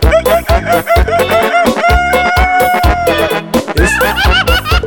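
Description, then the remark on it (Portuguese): A rooster crows loudly, a string of strained, drawn-out calls broken by choppy clucking bursts, with no one talking over it. “Olha o galo, cara, joia, joia, joia.”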